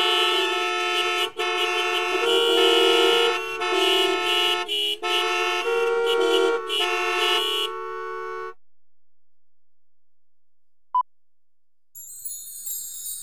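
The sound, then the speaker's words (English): Car horns blare loudly in a string of overlapping honks with short breaks, lasting several seconds before cutting off into near silence, followed by a brief faint tone. “Nine, cars.”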